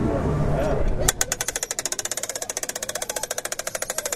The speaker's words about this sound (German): Und Petra hat jetzt gerade das Bild ausgelöst. Das entwickelt gerade sein Polaroid. Es wird gleich das negativ abgezogen und Oliver zeigt euch ja gerade mal das typische Geräusch, wenn er diese gigantische Kamera hochfährt.